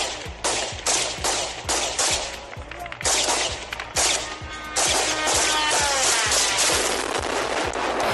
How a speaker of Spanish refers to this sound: Apunta a que Rusia habría comprado este modelo de 200 kilos de peso y una velocidad de hasta 185 kilómetros por hora que la policía ucraniana no ha dudado hoy en intentar abatir a disparos.